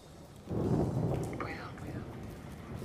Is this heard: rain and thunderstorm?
yes